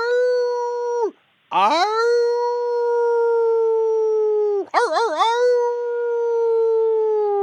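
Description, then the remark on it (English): A person imitates a werewolf howl: a long, steady, mid-pitched wail that breaks off briefly, resumes with a rising swoop, then wavers in a warbling quiver before holding steady again. “can we howl together? Because wolves have to howl in a pack, right?”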